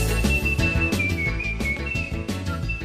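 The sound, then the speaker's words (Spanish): A professional whistler from Pamplona whistles a clear, high melody in the traditional bilabial style, lips pushed outward, holding long notes and small pitch shifts, over steady instrumental music with a rhythmic beat; no one speaks. “Especializado en el silbido tradicional de toda la vida. Que es el silbido, digamos, hacia afuera, bilabial.”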